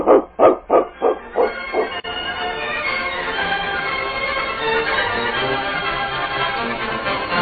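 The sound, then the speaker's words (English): A dog barks about six times in a quick, steady run, the barks loud at first and gradually softening, then giving way to a continuous dense background wash. “Dogs are the best friends in the world, aren't they, King?”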